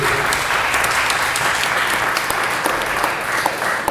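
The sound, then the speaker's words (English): Sustained applause from an audience at a celebration of the poet, essayist and art critic John, who turns 90 that Friday: a dense, steady wash of many hands clapping at an even loudness throughout, with no voices heard above it. “And I wonder if we should maybe applaud John and hope that he hears us as well.”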